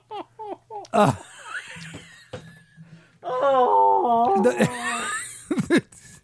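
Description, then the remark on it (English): A loud, sustained nose-blowing honk with a wavering, multi-pitched tone spanning about three octaves, set between short bursts of laughter-like vocal sounds and voices. “I was like a 3-octave honk you made there.”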